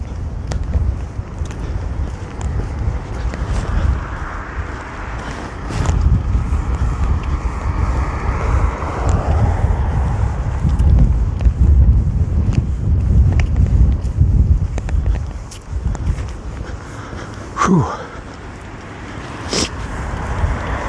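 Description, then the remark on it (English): Steady gusting wind rushes outdoors through moving treetops among houses, a broad roar that swells and eases over time, with occasional sharp knocks and rustles and no talking. “Gust front, I guess, because I've either got under it or it's died down. It's a lot of treetops moving, so I think there it is again.”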